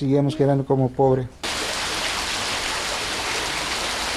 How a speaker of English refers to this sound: A downpour falls from the sky, rain almost as thick as water poured from a glass.